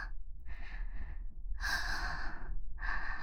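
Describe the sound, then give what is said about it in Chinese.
Heavy panting breaths from someone drenched in sweat and exhausted, about four airy bursts in a steady rhythm, each a loud rasping exhale with short pauses between, with no talking. “来，宝宝，满头大汗呢，就像刚从水里捞出来似的，累成这样了吗？苦苦喘气。”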